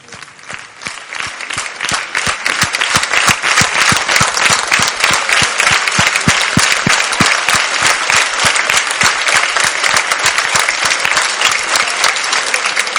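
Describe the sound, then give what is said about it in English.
A large audience bursts into loud, sustained applause for the women of the typing team who type every word the Rav says. Many hands clap densely together, swelling in the first couple of seconds and then holding steady and strong throughout. “A huge, loud of applause for the women that type every word that Rav says.”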